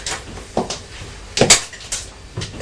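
A boy pulls open a kitchen drawer with a series of sharp clunks and rattles, its contents clattering briefly before it settles.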